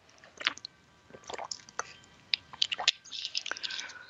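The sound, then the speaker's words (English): Quiet mouth sounds of someone drinking water after a small fruit fly went into their mouth: a run of wet sips, smacks and swallows spread over a few seconds, with soft breathy noise between them and no talking. “So I'll take a drink of water.”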